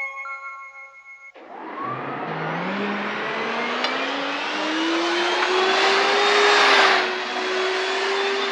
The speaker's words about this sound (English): I know. I'll take you back on my flying vacuum cleaner. It'll be easy. Climb on.